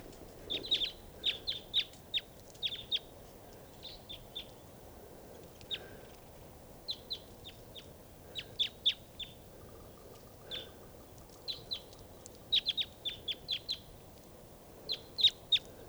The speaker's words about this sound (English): There's some crossbills right here in the trees at the campsite. I think they're type 2s, foraging on cones in the trees.